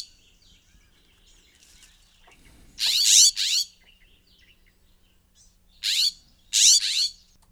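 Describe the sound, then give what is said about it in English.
A California scrub jay in Ladner gives harsh, raspy calls in two pairs of quick bursts, loud, with quiet background between them. “In Ladner, there has been a California scrub jay kicking around for a while, so give a list, keep your ears peeled for this.”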